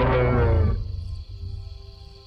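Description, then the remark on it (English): A huge, furry creature running off into the forest lets out one deep, loud roar that lasts under a second, then dies away into a low rumbling tail. No voices are heard. “you see a huge, furry, silhouetted figure leap over top of your wagon and run off into the forest, followed by an enormous roar as you lose consciousness.”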